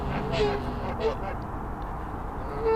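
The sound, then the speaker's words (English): Several short, nasal goose honks ring out at irregular intervals over a steady murmur of background noise, sounding like a few geese squabbling. “But yeah, the geese are with me on that one.”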